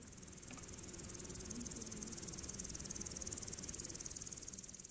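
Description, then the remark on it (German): Crickets chirp steadily in a dense, continuous high trill at the Alpe Gran Sunel, a mountain alp where four stone huts sit on a slope among rockfall boulders, with a soft low rumble underneath and no voices. “Grillen zirpen, 4 Steinhütten ducken sich in den Hang, verschwinden zwischen den Felsbrocken, die von einem Bergsturz herrühren.”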